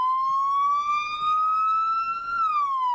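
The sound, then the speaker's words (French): An emergency vehicle siren wails steadily, its tone rising slowly then dropping near the end, loud with faint low rumble beneath and no talking, as emergency services arrive at a head-on collision between two cars. “Les deux voitures se sont percutées frontalement. Les secours sont arrivés.”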